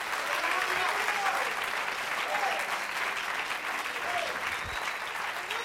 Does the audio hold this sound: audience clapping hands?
yes